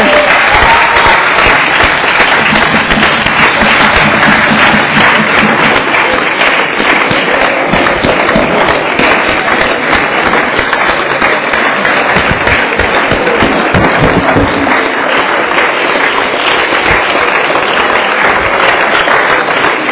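Sustained applause from a group, a dense steady patter of many hands clapping at an even, loud level for the whole stretch, with no voices standing out.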